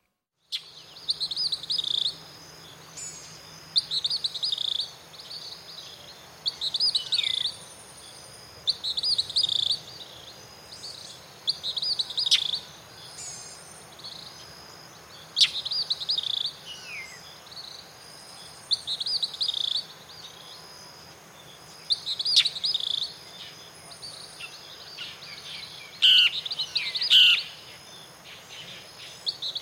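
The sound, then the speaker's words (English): Morning birds sing in repeated bursts of bright chirps and trills over a steady high hum of insects in an otherwise quiet outdoor setting, outside of town near the botanical gardens in Cuba. “Sometimes we actually surprise ourselves with our dedication to the project and still got up before the sun rose, headed outside of town near the botanical gardens to capture the sound of the morning birds.”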